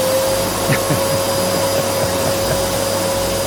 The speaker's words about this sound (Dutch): Dat is de beroemde stofzuiger. De beroemde stofzuiger van Simon Vestdijk. In het Literatuurmuseum staat achter glas de stofzuiger van Simon Vestdijk.